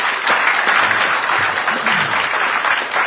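Sustained applause from a crowd giving God a big clap, a dense, steady wash of many hands clapping at an even loudness for about three seconds, with faint voices mixed in underneath.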